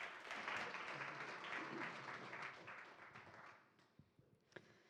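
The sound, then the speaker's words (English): A crowd at a church service applauds with dense, steady clapping, then gradually thins and fades, leaving a few scattered claps near the end. “So let's give her a round of applause and then just welcome her.”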